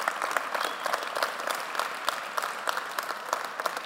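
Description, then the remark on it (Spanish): An audience applauds steadily for the Master (God), dense overlapping claps forming a continuous, even wash of sound that holds at a constant level throughout, with no voices standing out. “Y si usted lo cree, levanten un fuerte aplauso al Maestro.”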